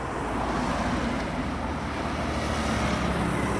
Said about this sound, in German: Die Autos rasen um die Kurve. Wir stehen an der Straße,